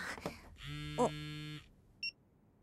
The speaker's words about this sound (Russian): Почему телефон сам заработал? А, мне звонят.